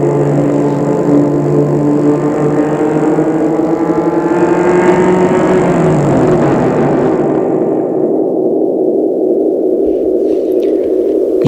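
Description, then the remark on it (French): A car drives along with a steady engine drone and rumbling road noise; the humming engine tones shift and fade partway through, leaving a low continuous rumble. “Et il sent qu'une voiture roule.”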